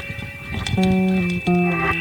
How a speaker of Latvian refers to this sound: Kāds virina durvis.